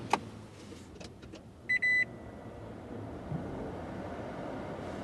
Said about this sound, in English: Not much to hear on startup from Les Goldman's Toyota Prius. Just the key in the ignition beeper, a few electrical relays clicking, and the air conditioner.